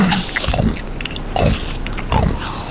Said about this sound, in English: As you say this, you hear the sound of someone munching on something.